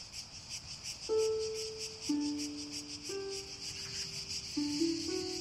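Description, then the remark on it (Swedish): A steady, rapidly pulsing chorus of cicadas on a still, light summer night in a garden fills the background without pause, joined after a second by a soft, low melody of held notes that shift pitch every second or so. “Sommarnatten var stilla och ljus, och det enda som hördes var cikadornas gnolande.”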